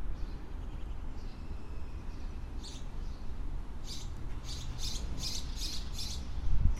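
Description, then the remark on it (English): Various different kinds of birds tweet in short repeated chirps, some nearby and some far away, as the wind blows gently and it feels like rain, over a steady low rumble of traffic from Route 9 in the background. “There are birds nearby and far away tweeting, various different kinds of birds.”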